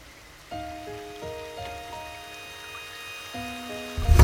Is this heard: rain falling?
yes